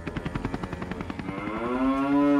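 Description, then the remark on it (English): A rapid, steady chopping pulse gives way to a single long, low cow moo that swells louder and holds to the end. No one speaks. “Then again, you can't really do it with a pet cow, can you?”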